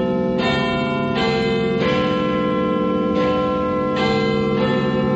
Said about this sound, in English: Please stop playing those bell sounds. I absolutely will not do that.